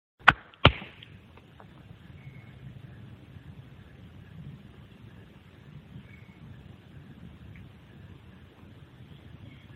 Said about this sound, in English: That starts with me slapping my chest in response, and if you'll just let it roll for 30 seconds.